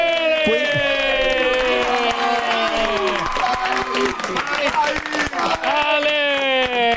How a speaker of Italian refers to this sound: Ma che lì che applaudono? Ma quei somali che applaudono. Scusami, quei somali che lì applaudono.